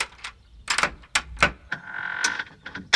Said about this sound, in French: Un homme au regard cruel lui ouvre la porte.